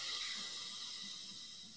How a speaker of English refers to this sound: So just exhale out the mouth. Gonna take a big, giant balloon breath in.